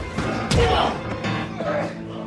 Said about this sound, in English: Someone jumps him from behind. Jinna fights back. And they fall to the floor.